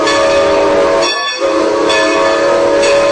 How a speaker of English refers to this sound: This is America's oldest short line railroad.